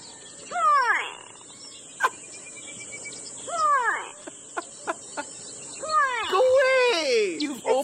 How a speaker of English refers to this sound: my favorite though, Neil, is a bird called, and this is hilarious, it's called the grey go away bird